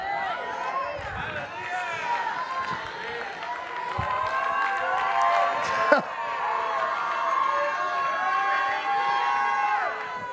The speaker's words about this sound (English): You are shouting before the punchline.